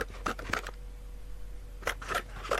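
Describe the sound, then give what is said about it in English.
Scissors snip holes in a cardboard box in two short bursts of quick, crisp cuts separated by a brief pause, fairly quiet with no talking. “Millie cuts holes in the cardboard box, allowing the fungaloid to put her arms through.”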